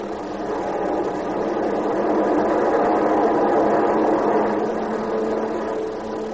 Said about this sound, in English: And the skies from coast to coast echoed the roar of training planes, hundreds of them.